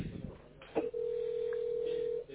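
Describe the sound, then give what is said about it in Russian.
A short click, then a single steady, mid-pitched electronic tone held for just over a second, the ringback signal of a phone ringing on the line, over a faint low hum. “Вот у нас пошел звоночек в вашу сторону.”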